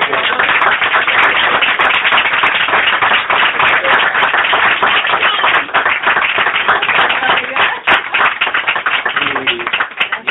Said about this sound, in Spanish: Yo creo que le demos un aplauso.